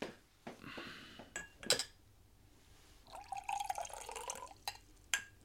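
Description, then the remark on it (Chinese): A few sharp glassy clinks, then a steady trickle of water poured into a glass for taking two headache pills, its gurgling pitch rising as it fills, ending with one more light clink. No one speaks. “唉，我而家好头痛，快啲俾杯水我，等我食两粒头痛丸啦。”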